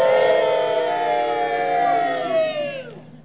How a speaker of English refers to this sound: You know, somewhere down south, there's a bunch of folks screaming out, no!